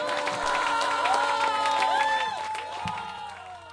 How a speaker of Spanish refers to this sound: hasta aquí el tema y el concierto de …. Acabaron aquí. Vaya griterío.